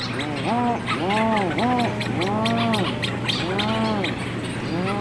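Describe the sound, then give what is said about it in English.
A dense seabird colony calls as dawn light returns, with overlapping low, mooing groans rising and falling in waves that sweep across the whole colony, over a constant backdrop of chatter and higher chirps from many birds. “because they get out, and then as the light starts coming back, the petrels die down, and then it's just this really, these waves of these moos that kind of sweep across the whole colony.”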